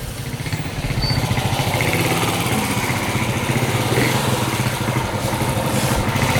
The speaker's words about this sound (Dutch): Moeder en dochter stappen achter op de motortaxi.